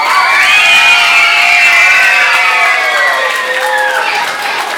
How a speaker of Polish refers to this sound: Jakże miło słyszeć te oklaski